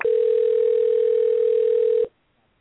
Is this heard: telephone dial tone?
yes